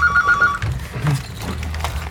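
A telephone rings with a short burst of trilling, pulsed electronic tones at the start, then stops, leaving a low background rumble. No one speaks.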